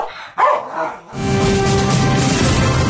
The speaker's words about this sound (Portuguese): Loucanicos é o nome de um cão que marca presença na maioria das manifestações contra a austeridade em Atenas.